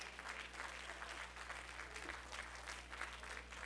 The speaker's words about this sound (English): If you love the Lord, give him a hand clap of praise. If you love him, stand on your feet and give the Lord a hand clap of praise. If you got the message today, give the Lord a hand clap of praise.